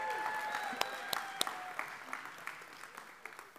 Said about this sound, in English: Y'all, he had a long one today, so give him an extra applause.